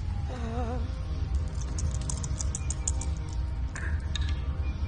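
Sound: two dice being rolled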